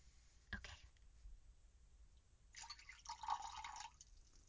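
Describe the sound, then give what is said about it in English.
Thick knotwood tree syrup, 100 milliliters for a love potion recipe, being poured into a container, a short clunk at the start followed by a gurgling, glugging stream that swells and fades over a couple of seconds, with no talking. “And then we need 100 milliliters of knotwood tree syrup. I think that's this. Do you want to pour it?”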